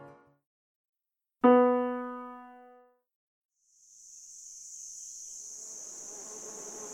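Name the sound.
bees buzzing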